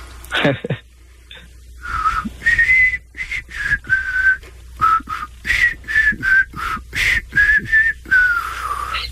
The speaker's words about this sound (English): At least he's whistling it at half speed.